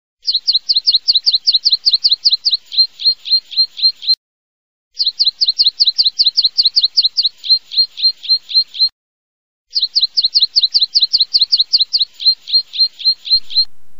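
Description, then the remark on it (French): A woodlark, a small meadow bird, sings three clear phrases, each a rapid run of repeated, liquid notes that shift pitch partway through, separated by short pauses. Alone, with no voices. “Ou plutôt vers le chant du turlut, une espèce de petit oiseau des prés.”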